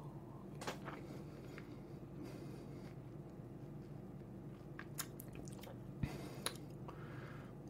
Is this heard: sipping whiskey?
yes